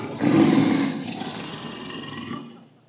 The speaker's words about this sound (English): Tell you what, a lion's a vicious thing, man. I've seen those things in Kruger National Park and other parks. They are big.